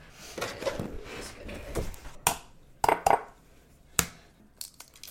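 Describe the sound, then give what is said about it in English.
Kitchen sounds of hard-boiled eggs being peeled over a bowl: soft crinkly rustling, then several sharp taps and clinks against the dish, with no one talking. “So it wants us to peel the hard boiled eggs and toss in a bowl with 1/3 cup sugar and cinnamon.”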